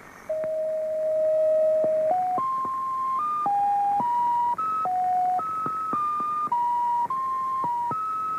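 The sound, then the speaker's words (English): A numbers station gong signal from a Stasi transmitter run by East German intelligence from a centre not far outside Berlin: a run of about fourteen steady electronic tones stepping up and down in pitch, each held briefly, played alone and fairly loud over a faint hiss. “It was a Stasi transmitter, run by East German intelligence, from a centre not far outside Berlin.”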